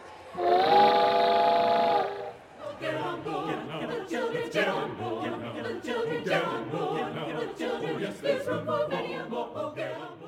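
A loud, sustained train whistle of the People's Climate Train, carrying over 200 activists coast to coast to the climate march in New York City in September 2014, blasts for about two seconds, its steady harmonic tone ringing clearly before giving way to a busy mix of voices and chatter.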